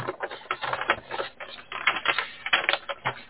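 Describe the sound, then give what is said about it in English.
Paper being handled, crinkling and rustling in quick irregular bursts for a few seconds, with no voices. “And I'm messing with this piece of paper.”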